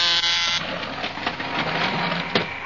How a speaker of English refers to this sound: Here, I'll press the buzzer so you can go into her laboratory.